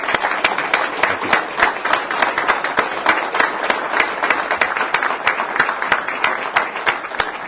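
A crowd applauds General Allen steadily, many hands clapping in a dense, continuous patter that stays fairly even in loudness throughout, with no voices standing out.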